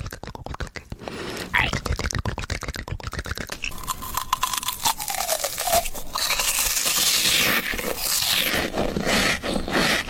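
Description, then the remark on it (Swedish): ASMR-style eating sounds: a rapid run of crisp, crackling crunches and moist chewing clicks, shifting into a steadier scraping, rustling texture that stays fairly loud throughout. “Precis, men det kan också vara andra typer av ljud, alltså när folk äter eller ja, vi lyssnar.”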